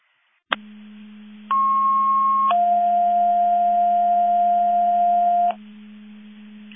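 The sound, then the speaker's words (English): A sequence of loud, steady electronic alert tones over a constant low hum, as Quadcom tests the Division 2 Mutual Aid Box Alarm alerting receivers: a brief higher tone for about a second, then a longer lower tone for three seconds, like a two-tone radio page. “Quadcom Mabus Division 2 testing the Division 2 Mutual Aid Box Alarm Alerting Receivers.”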